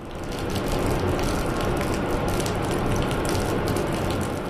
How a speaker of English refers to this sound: This pumping station draws water from the Tennessee for residents of Huntsville. Today we're pumping a little over 25 million gallons